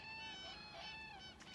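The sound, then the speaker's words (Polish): A flock of geese calls as it flies in after dark to roost for the night, overlapping honks blending into a steady, faint chorus. “A nie, to teraz gęsi dolatują.”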